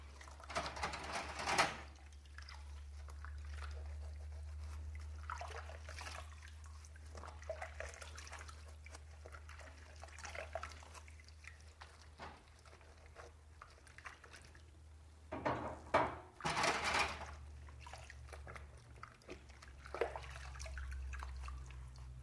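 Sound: water trickling and dripping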